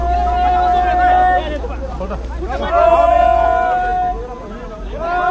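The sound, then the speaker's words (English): A crowd of men grunt and huff with effort as they roll a knocked-out rhino over onto a sled, overlapping strained voices rising in bursts over a steady low rumble, fairly loud. “A crowd of men huffs and puffs and eventually rolls the knocked-out rhino over onto a sled.”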